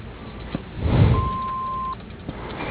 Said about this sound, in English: To leave a message, wait for the beep.